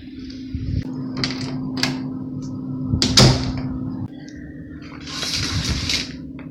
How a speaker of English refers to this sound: If we're gonna do this, we might as well try to close the door and close the curtains in case.